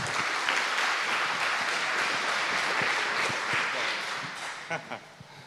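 A conference audience applauds a presenter as he is introduced for his talk on small web approaches to building a new internet, with steady, dense clapping that holds for several seconds, then thins out into a few scattered claps as it fades.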